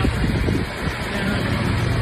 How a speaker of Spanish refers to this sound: Será el sonido de los bomberos achicando agua en esa localidad.